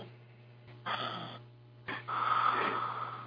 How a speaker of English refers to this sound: Does somebody have a CPAP machine? Are they breathing on us?